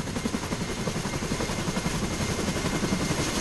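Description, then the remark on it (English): Loud, steady helicopter rotor noise with a rapid rhythmic thudding over a dense roar of engine and wind, continuous throughout, with no voices. “So in the past few weeks alone, I've ridden in an Army Black Hawk helicopter in Kuwait.”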